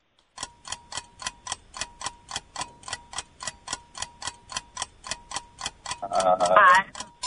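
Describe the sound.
A quiz countdown timer ticks steadily, sharp clicks evenly spaced about three per second for several seconds, before a brief burst of voice breaks in over the final ticks.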